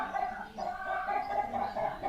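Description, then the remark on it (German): Chickens on a farm clucking steadily, a continuous stream of murmuring clucks with small bursts, no speech over it. “Das haben die Hühner.”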